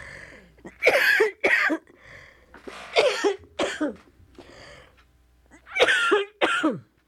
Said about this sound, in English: What am I going to do about this cough?